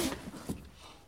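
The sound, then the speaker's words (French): A pupil's writing slate drops onto a hard floor at a school, landing with a sharp clatter and one smaller knock as it settles; the slate breaks. The sound is faint and brief, with no voices. “Qui a fait tomber son ardoise?”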